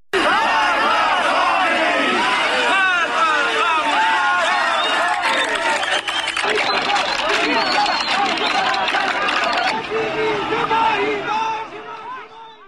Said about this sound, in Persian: همه این جمعه ها بعد از صحبت های عبدالحمید شروع به سر دادن شعارها میکنن، به خیابون ها میان با پلاکارد هایی که در دست دارن شعارهایی رو میدن نظیر ملت آزادی میخواد، کشور آبادی میخواد. یک صدایی از زاهدان رو داریم، این رو با هم بشنویم، بعد من ادامه میدم.